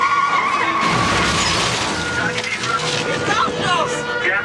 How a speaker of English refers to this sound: Accelerating backwards, they're actually able to back over the hood of this officer's car and break through her windshield. Another inch and she would have been killed.